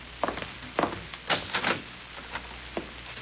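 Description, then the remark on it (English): A cellar door is unlatched and pulled open: a short series of wooden clunks and knocks, a brief creaking scrape in the middle, then a couple of softer taps. No one speaks. “Let's see, the door to the cellar's over here, isn't it?”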